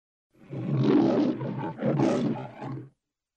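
A lion roars in a studio logo, two or three deep, rumbling bursts, loud, lasting about three seconds before cutting off cleanly. No one speaks over it.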